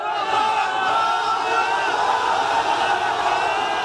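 A crowd cheers and shouts together as survivors are rescued alive from the rubble after the earthquake in Turkey, in a dense, steady roar of many voices, with whoops and yells rising above the sustained din for the whole stretch.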